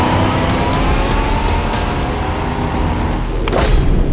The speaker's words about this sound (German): Kommt schon, wir müssen ihnen hinterher! Sie sprangen in ihre Wagen und rasten hinterher.